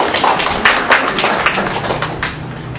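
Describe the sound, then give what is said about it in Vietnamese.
A crowd applauds to welcome a young Christian speaker, with dense, steady clapping for a few seconds, a handful of sharper individual claps standing out from the wash, with no voices over it. “Chúng ta trong một tràng pháo tay gặp với một bạn trẻ theo Chúa.”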